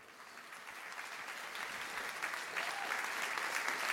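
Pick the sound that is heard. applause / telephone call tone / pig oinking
applause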